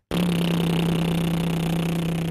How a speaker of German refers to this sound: Die Lippen, die Zunge, Kiefer, Stimmbänder oder auch die Wangen und Co. Also du kannst zum Beispiel Lippen flattern.